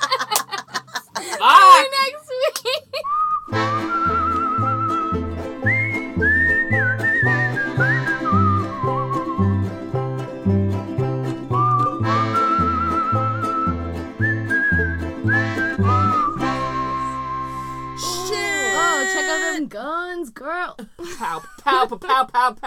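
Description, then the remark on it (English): A voice imitates an air horn with high-pitched, whistle-like sustained honks and swoops, set over a steady thumping beat with layered tones, with some giggly vocal bursts at the start and end. “That's what I think an air horn sounds like.”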